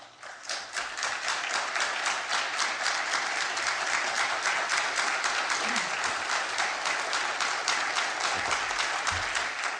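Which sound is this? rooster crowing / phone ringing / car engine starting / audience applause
audience applause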